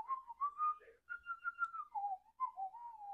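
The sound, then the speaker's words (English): A person whistles a short, wavering melody, the pure tone sliding between notes in several phrases with brief pauses, fairly clear, with no talking. “That was my audition for any whistling parts that might be open.”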